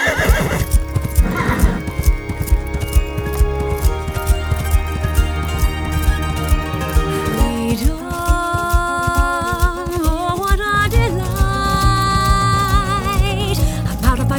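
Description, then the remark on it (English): A horse whinnies loudly while its hooves clip-clop in a steady rhythm, the sounds continuous with no talking. “Is there any wonder I'd take a horse and escape into town?”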